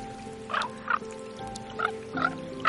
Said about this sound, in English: So I take in the sounds alone are amazing. You've got, you know, ravens, you know, with these kind of harpy screams that they do, and they do these croaking sounds.